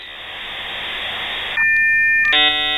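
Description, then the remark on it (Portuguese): An electronic five-second radio tone signal: a harsh, buzzy static hiss for about a second and a half, then a steady high pure tone, ending in a brighter, louder chord of electronic beeps. No voices. “Atenção para o toque de 5 segundos!”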